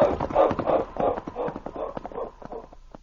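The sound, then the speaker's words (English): A dog named King barks excitedly in quick, repeated bursts while following a trail, over a steady rhythmic clatter like trotting hooves that fades slightly toward the end. “With King barking excitedly along the trail they were following,”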